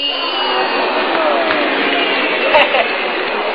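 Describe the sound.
A voice mimics the audience below the stage cheering at a singing contest: a sustained, noisy roar of whoops and shouts for a few seconds, with a couple of brief louder bursts near the end.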